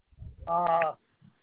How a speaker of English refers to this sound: I got a bird that's jealous.